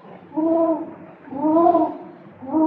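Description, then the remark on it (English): An owl hoots three times in a steady, evenly spaced rhythm, each call a soft, rounded, drawn-out tone, clear with no talking. “What's that? Just a hoot owl hooting.”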